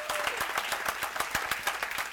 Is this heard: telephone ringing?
no